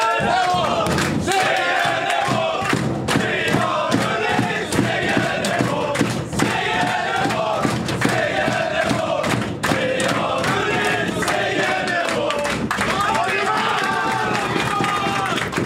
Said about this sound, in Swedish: Ja, kan vi dra lite segersång nu då? Ja, såklart. Jag hänger med in i omklädningsrummet här. Ja, hörrni, nu kör vi.